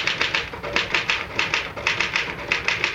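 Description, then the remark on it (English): Rapid, steady clacking of typewriter keys being struck one after another, a brisk even rhythm of sharp mechanical taps, with no voices over it. “Well, the truth is that the typewriter, or rather, Mr. Gann, does all the brain work.”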